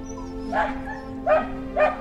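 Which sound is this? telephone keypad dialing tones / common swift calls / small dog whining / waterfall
small dog whining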